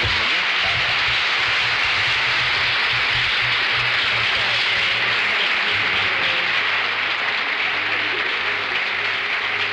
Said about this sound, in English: It's wonderful. Give our best applause.